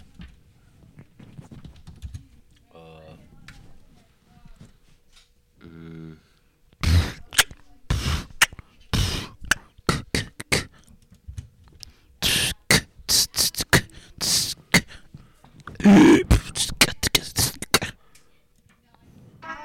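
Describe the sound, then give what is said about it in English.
Beatboxing: a voice mimics drums with sharp, loud clicks and punchy bursts in a quick, uneven rhythm, preceded by a few soft buzzing, hummed tones. “Who taught you on the beatbox, bro?”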